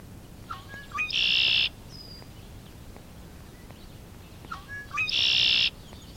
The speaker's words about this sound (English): Red-winged blackbird.